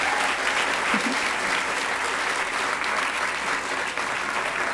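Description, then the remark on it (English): An audience gives a round of applause for the AV crew, clapping steadily for several seconds, a dense, even wash of many hands with no clear individual beats and a constant loudness throughout. “A round of applause for the AV guys real quickly.”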